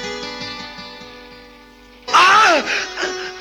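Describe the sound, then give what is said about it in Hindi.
A steady humming tone gives way to a sudden loud cry of pain from someone who has been bitten, a strained voice wavering and sliding downward in pitch, followed by a shorter second outburst. “लगी है तो दुखेगा भी, इतना चिल्लाते क्या हो?”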